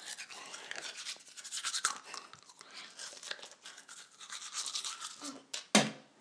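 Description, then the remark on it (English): Steady, bristly scrubbing of a toothbrush against a girl's teeth in quick back-and-forth strokes, ending with a sharp, loud knock as the brush bangs against a tooth, just before the brushing trails off. “She's adding more toothpaste.”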